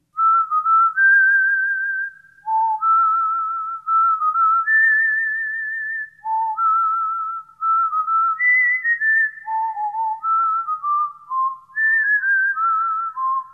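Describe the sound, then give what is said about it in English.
A lively melody whistled cleanly and continuously, with bright sustained notes stepping up and down in a bouncy rhythm. The whistling is clear, with no talking. “That's a catchy little tune.”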